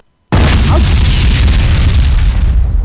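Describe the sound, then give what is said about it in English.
A sudden, loud explosion boom bursts out after a brief silence, then rumbles on with a heavy, roaring low end that slowly fades. No voices are heard. “We're fucking blowing stuff up.”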